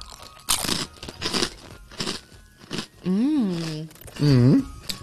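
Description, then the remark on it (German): Crisp crunching of a Spekulatius-flavoured biscuit being bitten and chewed in several quick bursts, followed by two drawn-out, wavering hums of enjoyment from a voice. “Oh, aber wirklich, jetzt schmatze ich wieder hier rein, das ist wirklich Spekulatius-Flavor.”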